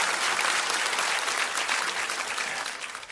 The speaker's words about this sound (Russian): Аллилуйя. Дадим Богу аплодисменты сильно. Аллилуйя, Господь.